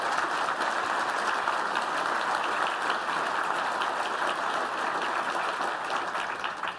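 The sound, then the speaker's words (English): A conference audience applauds the EF team steadily, a dense wash of many hands clapping at an even, sustained loudness for several seconds before starting to taper off at the end. “So these are the folks that built all of the stuff that I demoed, so can we get a huge round of applause for the EF team?”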